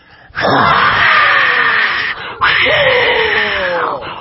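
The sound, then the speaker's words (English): A single voice mimics a roaring crowd as a vocal sound effect, with two long, loud, breathy wailing blasts, each held nearly two seconds and separated by a brief gap, with no other sound. “The crowd roars.”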